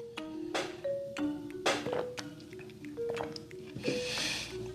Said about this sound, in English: and sorry, I took that long water break. My bad. I'm not editing it out.